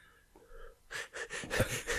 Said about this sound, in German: Hör auf, so komisch zu atmen.